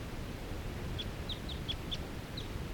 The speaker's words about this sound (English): This is that same bird that I was recording a minute ago, and that was lone and in the fir. Calling rapidly now.